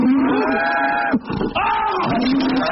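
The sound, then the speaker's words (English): A cow in a room moos twice, two long, loud, low bellows with a rich droning tone, split by a short rough break. No one speaks. “there's a cow in my room!”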